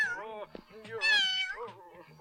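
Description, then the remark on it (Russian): A person imitates a cat, letting out a few drawn-out, rising and falling meows in a clear voice with short pauses between them. “Я мяукаю.”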